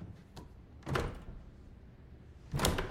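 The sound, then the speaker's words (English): A locked door handle on a door at the back of a church altar is yanked a few times, giving short metallic clunks and rattles with quiet pauses between them, with no voices. “He pulls on the door handle.”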